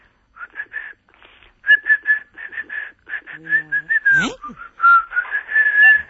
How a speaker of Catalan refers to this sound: Molt bé. Heu sentit aquesta xiulada?